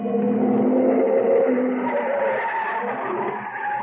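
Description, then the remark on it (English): A car roars past at speed along a street as someone crosses, its driver opening the door to hit them; the engine a loud, steady growl with tire noise, the pitch easing slightly downward as it moves on. No voices are heard. “I started across the street to catch another cab, and I was halfway there when I heard the car.”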